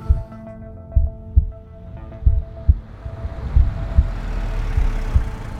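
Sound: heartbeat sound effect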